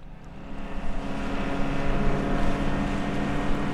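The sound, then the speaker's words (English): A motorboat's engine drones steadily on the 25-minute river crossing from Nutok to Muktavik, a continuous low hum with a rushing wash of water over it, holding an even, loud level throughout with no voices. “A 25 minutes by boat gets you from Nutok to Muktavik”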